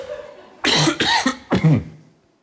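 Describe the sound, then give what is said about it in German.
A single cough repeated three times in quick succession, each burst nearly identical, looped by editing, loud, with a brief pause before the last one. “Hat einen Loop in den Huster gebaut.”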